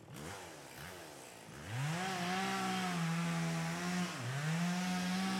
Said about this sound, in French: En Amazonie, un bûcheron nouvellement engagé se voit remettre par le chef des travaux une tronçonneuse à essence et une hache. La tronçonneuse, lui explique le chef, c'est pour couper les arbres.